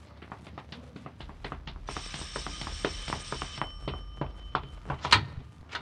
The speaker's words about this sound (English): Doorbell! I'll get it.